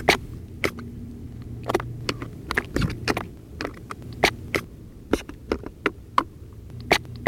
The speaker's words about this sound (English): Scallops clapping on Martha's Vineyard.